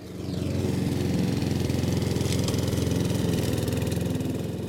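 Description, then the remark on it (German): A small lawn mower engine runs steadily in a large garden plot, its rapid chugging drone holding constant and loud for a few seconds with no voices over it. “Das mit dem Rasenmäher viel Vergnügen.”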